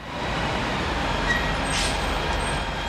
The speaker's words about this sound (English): This bus stop is in downtown Bethesda, a part of the district where Morella has found considerable Democratic support.